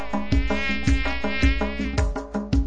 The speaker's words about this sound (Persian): هفت تا پشه اومدن ویزو ویزو ویز میخونن.